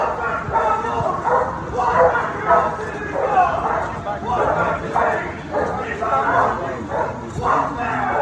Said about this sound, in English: I'm walking backwards, and he has this dog right here barking like 3 feet behind me, like the dog is going crazy.